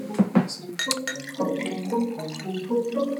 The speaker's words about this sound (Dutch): Nou. Nou, de glazen zijn bijgevuld.